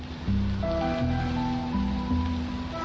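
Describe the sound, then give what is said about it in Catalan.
Steady rain falling, a dense, even hiss that continues throughout, mixed with sustained musical tones and low bass notes that shift slowly underneath. “Hipnotitzant-nos amb la pluja.”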